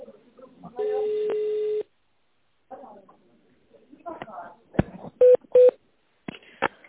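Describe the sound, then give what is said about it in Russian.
Touch-tone telephone dialing on a call to the company Havlu Industriverke, after its recorded prompt to dial an employee's extension in tone mode: a sustained tone lasting about a second, then a pause with faint rustling and clicks, followed by two short, loud, even-pitched keypad beeps in quick succession. “Если вы знаете внутренний номер сотрудника, наберите его в тональном режиме или дождитесь ответа секретаря.”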